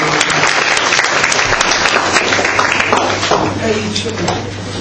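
An audience claps at the end of a lecture, steady in a dense, sustained burst of applause that carries on loudly for several seconds, tapering slightly toward the end, with a low hum underneath.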